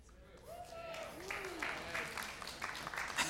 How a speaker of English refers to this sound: you guys are clapping for this. That's awesome. Y'all are good sports.